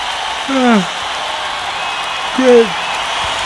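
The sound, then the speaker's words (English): Two short yawns a couple of seconds apart, each a voiced sound sliding downward in pitch, over a steady background hiss with no talking. “Yeah, yawning, fantastic.”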